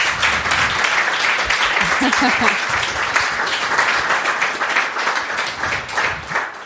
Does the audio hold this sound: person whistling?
no